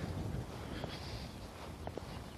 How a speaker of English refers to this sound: And so I put my fleece hood on. I'm glad I did. As it is, I should probably put my big hood up over it because the wind is blowing right through it.